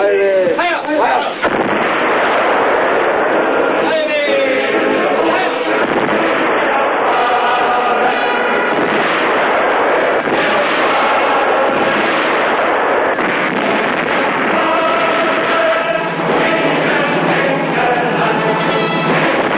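Heavy artillery fires salvos on command, roaring almost without pause, booming salvos blending into a dense, muffled rumble that stays loud from start to finish with no talking.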